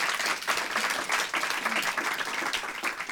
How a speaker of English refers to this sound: Could we have a round of applause for two of these people?